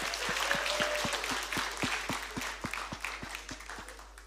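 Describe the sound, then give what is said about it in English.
A crowd gives a round of applause for the worship team, steady for about four seconds, a dense wash of clapping over an even, regular low thump, tapering off slightly toward the end. “Just another round of applause for the worship team.”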